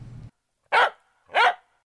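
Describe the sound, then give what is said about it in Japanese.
A dog barks twice in the jingle of the radio segment 'Koko Hore Wan Wan': two loud woofs spaced about half a second apart, following a brief low rumble at the start, with silence between and after. “ここ惚れワンワンのコーナーでした。”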